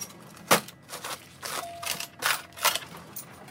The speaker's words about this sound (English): It looks like your typical gas station, but the sound of the cash register stands out. Every time someone pumps gas, it pings like an arcade game.